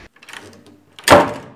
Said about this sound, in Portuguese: João Felipe sai da casa furioso a bater portas.